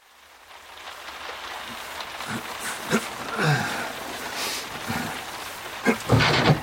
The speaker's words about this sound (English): Now, I know that ain't rain. Ain't it? No, it ain't. That's you with the garden hose, sprinkling well water on the roof.